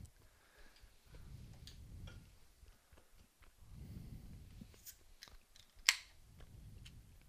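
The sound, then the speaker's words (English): A young woman chews food, with soft, muffled bursts of jaw movement in a few slow waves, punctuated by small wet clicks and one sharper snap. No talking. “I'm chewing.”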